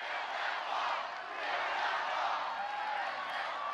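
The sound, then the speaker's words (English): An enthusiastic crowd at a rally in a football stadium in Mobile, Alabama, greets President-elect Donald Trump, cheering in a steady, loud roar of many voices blended together, with no single speaker standing out, holding a constant level throughout. “An enthusiastic crowd greeting President-elect Donald Trump in Alabama.”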